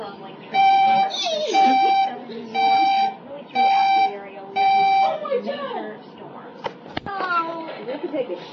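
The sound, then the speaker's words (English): Four loud, harsh electronic alert tones from a weather emergency broadcast sound in an even rhythm, with children's voices chattering underneath and continuing after the beeps stop. “Special weather report update.”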